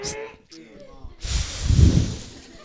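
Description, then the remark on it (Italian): A brief spoken phrase, then one long, forceful breathy blow that rushes out loudly and fades after about a second and a half, like a child blowing hard in a single breath to show how strongly he can blow. “Soffio forte con un solo soffio e te lo dimostrerò.”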